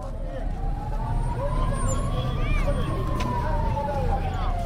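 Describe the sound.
An ambulance siren wails with a slow rising and falling pitch over a dense, noisy scene of traffic rumble and agitated crowd voices, everything loud throughout, in Kabul two hours after a suicide bombing inside a mosque, as ambulances carry the wounded to hospital.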